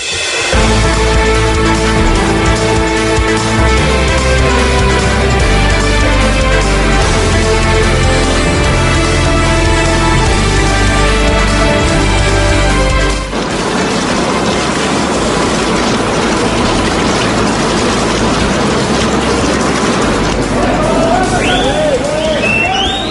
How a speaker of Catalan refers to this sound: Això que sentim, els flaixos de càmeres, els crits, són de centenars de periodistes que volien prendre a Mèxic la imatge del dia, la de Joaquín El Chapo Guzmán, el narcotraficant més poderós del món i un dels homes més buscats del planeta.